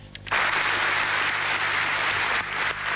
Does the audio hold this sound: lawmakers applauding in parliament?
yes